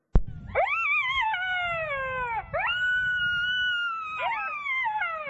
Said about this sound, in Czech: Nepříjemné pronikavé zaječení zezadu od pouště.